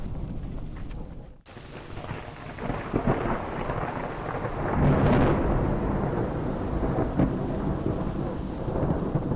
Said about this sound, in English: maybe that thunder is the little bass line in the music. Who knows?